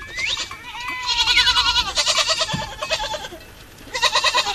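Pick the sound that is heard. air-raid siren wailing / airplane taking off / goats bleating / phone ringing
goats bleating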